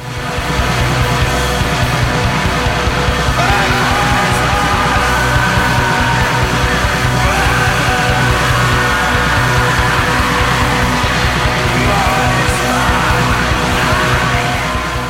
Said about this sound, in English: It sounds like a guy screaming from the bottom of a well. It's just so cavernous and layered with reverb and buried way deep in the mix, and then it decays and then fritters away